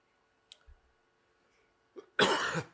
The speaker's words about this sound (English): Let me get my cough done away with.